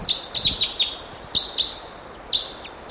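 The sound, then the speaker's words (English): Wild birds chirp in quick bursts, about eight sharp, high-pitched notes clustered in groups with short pauses between, clear and fairly prominent over a soft background hiss, with no talking. “Still pointing at these wild birds.”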